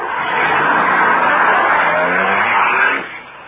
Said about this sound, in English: There's a car coming. They've got us in their headlights. It's the cops.